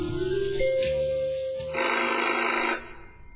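An old-fashioned telephone bell rings loudly and continuously in two bursts, a harsh metallic jangle, with no one speaking.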